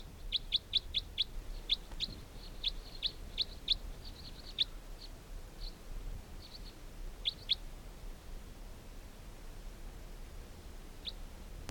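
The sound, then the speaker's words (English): Short, high-pitched chirps from about 15 birds caught in a net come in quick irregular bursts for several seconds, then thin out to a few scattered calls and one last chirp, over a faint steady hiss with no talking. “There continue to be 15 birds in the net.”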